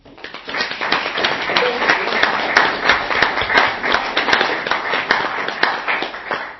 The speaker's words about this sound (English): Now, I would like to take a moment to recognize the loved ones with a round of applause as well, because they deserve it.